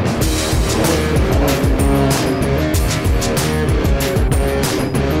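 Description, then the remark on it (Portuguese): The loud, raw engine of a Ford Ranger Raptor pickup truck roars continuously, heard inside the cab on an off-road lap with a test driver at Ford's proving ground in Tatuí, its pitch rising and falling as it revs and shifts, with a rough, unmuffled growl and no voices. “Enfim, aqui dentro da cabine é exatamente aquela impressão, aquele ronco de motor bem sem abafador.”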